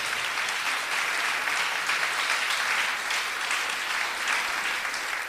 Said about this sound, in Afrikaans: Vriende, klap weer hande vir